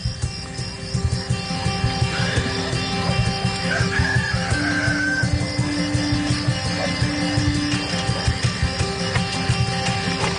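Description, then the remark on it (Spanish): A rooster crows a long, drawn-out call in the middle of a busy farmyard, from the series La Estrategia, with hens clucking steadily around it and a constant dense background of animal noise. “El gallo no es vuestro, ¿eh? Esto es de la serie.”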